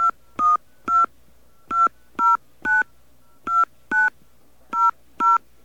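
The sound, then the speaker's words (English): Touch-tone keypad beeps dial a 10-digit phone number in response to an automated phone system prompt, about ten short, crisp dual-tone presses in uneven pairs with brief pauses between, loud, with no voices. “Enter a 10-digit phone number now. Okay, let's enter our phone number.”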